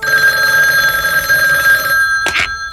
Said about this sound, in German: Als Justus am nächsten Abend allein in der Zentrale vor dem Rechner saß, klingelte das Telefon.